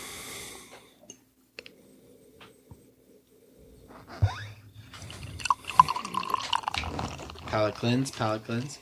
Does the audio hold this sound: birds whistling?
no